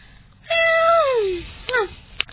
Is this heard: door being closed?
no